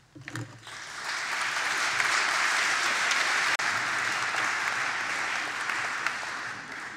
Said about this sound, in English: Sorry, this is what I forgot to ask you earlier, which was to keep applause for the end. It leads to a little bit less interruption, and we have quite a lot to get through. But thank you very much for the applause, but keep the rest of it for the end